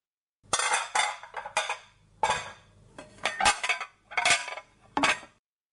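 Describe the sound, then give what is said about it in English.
Dishes and cutlery clatter in a series of bright, clinking bursts as they are handled and washed up after a meal, several quick clusters of metallic and ceramic knocks, with no voices. “Oh goodness, after all the work of making that meal for us, she wants to do the dishes too.”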